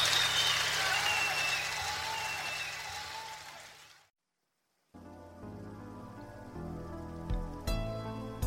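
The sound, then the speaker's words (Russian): Steady spring rain patters on the ground for about four seconds, dense, then fades into a brief silence before music begins. “Дождя серебряные молоточки весеннюю выстукивают землю, как миллион веселых докторов.”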